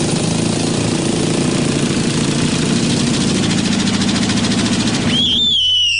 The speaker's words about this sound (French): Les travaux dans la rue.